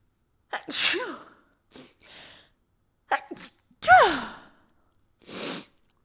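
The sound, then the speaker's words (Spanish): Two loud sneezes, each a sharp voiced burst, separated by short sniffs and breaths, ending with a final exhale. No speech. “O sea, güey, voy a estornudar.”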